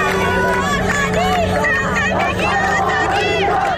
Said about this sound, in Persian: غروب جمعه اعتراضات به شهرهای دیگر استان خوزستان هم گسترش پیدا کرد. آبادان شاهد حضور پررنگ مردمی بود که زن، زندگی و آزادی را فریاد می زدند.